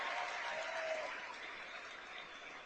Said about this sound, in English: So here is the ambassador right in the middle of his speech. This is the Israeli ambassador to the United States, Ron Dermer, addressing Christians United for Israel, the night of honoring Israel in Washington, D.C. last night. Applause.